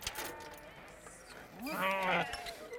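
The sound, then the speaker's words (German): Sheep bleat from a flock of 150 on a large meadow outside the town limits as six more sheep climb out of a trailer to join it, with one loud, wavering bleat standing out around the middle, set against a busy outdoor background of other animal calls. “Nach einem kurzen Zögern sind die Schafe aus dem Anhänger geklettert und gleich auf die Schafherde zugelaufen.”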